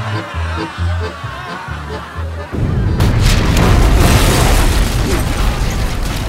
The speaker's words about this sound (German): Die vordere Pulverkammer der Oxford zerbirst mit einem ohrenbetäubenden Knall. Die Luft erzittert. Ein riesiger Feuerball steigt auf. Zersplitternde Schiffsplanken und schreiende Menschen.